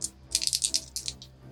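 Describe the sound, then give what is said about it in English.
Dice clatter and tumble in a quick burst of sharp, bright clicks, several rapid knocks rising and fading over about a second, heard alone without any voices. “I'm going to use different dice.”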